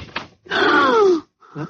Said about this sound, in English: Let's open the door and rush them. Yes, if they're still there.